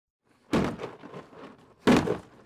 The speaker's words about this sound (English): so he's using a sledgehammer to take it apart.